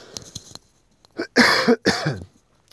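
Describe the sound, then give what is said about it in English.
A few small throat clicks, then a loud bout of harsh coughing from a tickle in the throat: one short cough followed by two long, rasping coughs in quick succession, with no talking. “That cough has been brewing since the start.”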